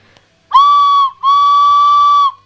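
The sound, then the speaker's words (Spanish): A whistle from an approaching train sounds two loud, steady blasts at one fixed mid-high pitch, a shorter toot followed by a longer one after a brief gap, with no voices. “Es una barrera y está baja porque viene el tren.”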